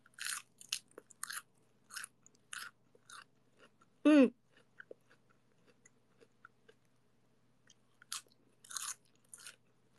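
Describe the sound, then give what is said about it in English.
Crisp crunching of someone biting and chewing a cold, crispy head of lettuce taken from the fridge, in irregular bursts with short pauses and a louder snap near the middle; no one speaks. “So I went to my fridge and I pulled out this head of lettuce that I got. And so crispy. Crispy and cold and refreshing.”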